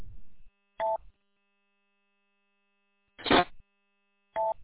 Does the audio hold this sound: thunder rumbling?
no